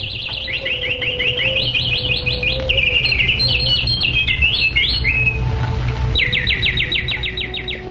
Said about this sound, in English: On all sides lay the flowering forest, echoing with flocks of birds and swarms of bees, and beautified by its lakes crowded with swans, Karandava ducks, and bowers of lotuses.